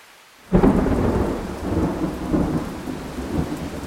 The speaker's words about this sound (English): Did ever men see such a sudden storm, or day so clear, so suddenly o'ercast?